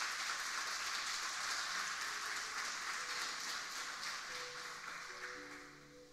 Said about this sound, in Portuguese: Você pode dar uma salva de palmas a Jesus se você se sentir usado?